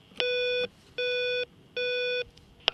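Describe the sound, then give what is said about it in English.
An intercom buzzer at Carrigaline Court Hotel is pressed three times in a row, each press giving a steady electronic buzz lasting about half a second, with small clicks at the start and end of each press. “After a morning pressing buzzers and getting no reply, just after midday I thought, what's the worst that can happen here?”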